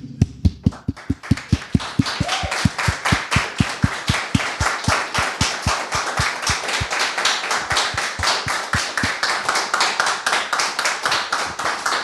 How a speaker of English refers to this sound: Okay, so, yeah, I think, yeah, I want to applaud you.